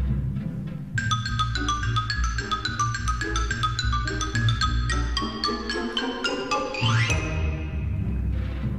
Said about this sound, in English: The xylophone.